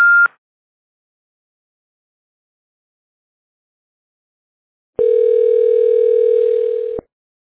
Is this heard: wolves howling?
no